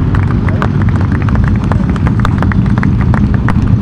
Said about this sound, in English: A Ducati goes by there with a number one on it.